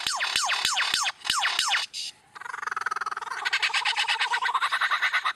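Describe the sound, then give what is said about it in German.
A lyrebird in Australia mimicking a chainsaw: a quick run of sharp, downward-sweeping calls with clicks, then a loud, rattling mechanical buzz that pulses and revs higher toward the end. “Wenn in Australien plötzlich eine Motorsäge heult und die Geräusche immer aus der gleichen Ecke kommen, könnte es sich durchaus um einen Leierschwanz handeln.”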